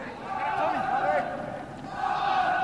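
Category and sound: crowd, football stadium crowd cheering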